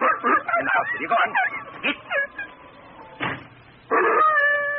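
An old hound howls and whines at night in drawn-out, wavering cries, fairly loud, with a few broken yelps before one long sustained howl at the end.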